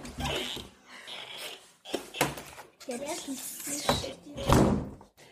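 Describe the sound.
A door swings shut with a short, solid thud while a person keeps talking over and around the sound.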